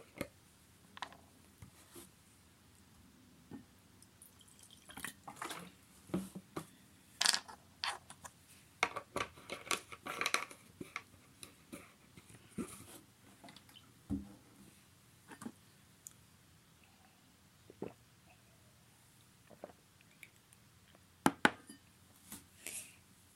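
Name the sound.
drinking tea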